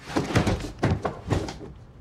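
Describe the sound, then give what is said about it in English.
An adjoining sliding door is quietly pushed shut, locked, and a large case is wedged behind it: three muffled knocks and rumbles in quick succession, with no voices. “Grabbing a large case, she quietly closes the adjoining sliding door, locks it and wedges her case behind it, grinning.”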